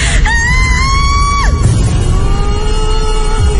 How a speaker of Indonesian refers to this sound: sontak aku pun terkejut dan berteriak sangat keras.